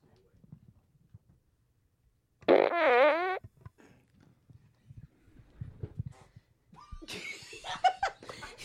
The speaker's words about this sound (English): All right. Here comes fart number six.